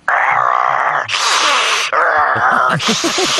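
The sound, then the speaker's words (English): A voice imitates a sump pump in a crawl space, alternating low, strained groaning moans with loud, breathy rushing exhales in a steady back-and-forth rhythm, fairly loud. “I think what you have in your crawl space is a sump pump.”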